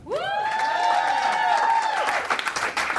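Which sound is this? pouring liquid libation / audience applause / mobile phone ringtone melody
audience applause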